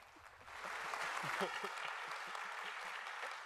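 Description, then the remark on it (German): A crowd claps steadily in a dense, sustained burst of applause that rises quickly and holds for several seconds, with a few faint voices mixed underneath. The audience applauds after a Purdue University security researcher is introduced for a talk on new memory corruption attacks. “Wait with the applause Vielen Dank.”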